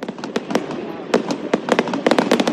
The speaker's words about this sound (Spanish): En Ávila, los fuegos artificiales han puesto el punto final a las fiestas de la Santa que se han celebrado durante la última semana en nuestra ciudad.